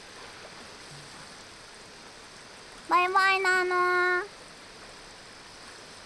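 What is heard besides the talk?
flowing river stream water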